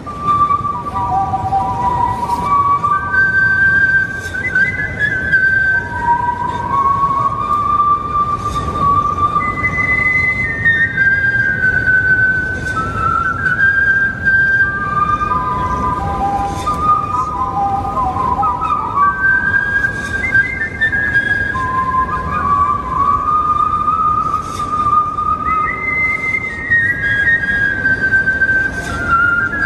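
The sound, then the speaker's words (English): A single person whistles the national anthem at a Baltimore Orioles game, a slow, stately melody with long held notes and glides between pitches, clear and fairly loud over steady low background noise throughout. “Whistled the national anthem at a Baltimore Orioles game.”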